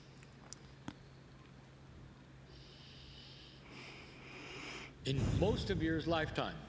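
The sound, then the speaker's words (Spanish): An audience draws in a long collective deep breath at the speaker's request, a soft broad rushing inhale from many people at once, followed by a brief louder burst of murmuring and shifting near the end. “Pero antes de hacerlo, quiero que tomen una profunda respiración.”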